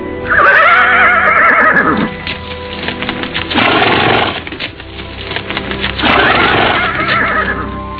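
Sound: horse neighing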